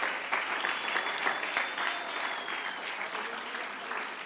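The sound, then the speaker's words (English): An audience at Pentecostal Tabernacle in Middleton, Tennessee claps their hands in praise of the Lord Jesus Christ in steady, dense applause, many overlapping claps forming a bright, sustained wash of sound at an even loudness throughout, with no clear speech over it. “Let's give the Lord Jesus Christ a hand clap of praise right now, would you?”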